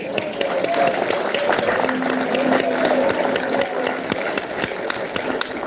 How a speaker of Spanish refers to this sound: Un aplauso, pues.